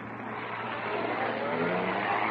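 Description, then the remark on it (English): A car starts and drives off, its engine running with a steady low hum under broad road noise, growing gradually louder as the vehicle pulls away and picks up speed. “He's getting into a car, thank goodness. He'll be easy to follow.”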